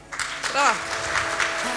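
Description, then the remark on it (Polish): Steady audience applause as finalist teams of the Imagine Cup 2016 national finals are announced, a dense, even patter of many hands clapping, while a voice briefly speaks over it. “Brawa, brawa.”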